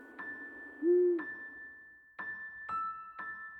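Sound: eurasian eagle-owl hooting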